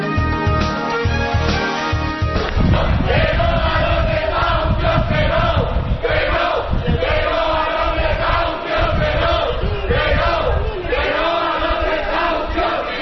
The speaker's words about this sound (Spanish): El sonido, los gritos de miembros de la plataforma de afectados por la hipoteca esta mañana en Getafe, paralizando un desahucio en la calle Gladiolo, número 1 del barrio de las Margaritas.